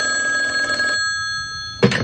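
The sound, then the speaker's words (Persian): A desk telephone on the desk of the head of the Lorestan cultural heritage office rings with a bright, steady electronic trill for about a second, then falls quiet before a short burst of another sound cuts in at the end. “حقیقته یا نقل قوله، ولی میگن اون هفته تلفن روی میز رئیس میراث فرهنگی لرستان به صدا در اومد.”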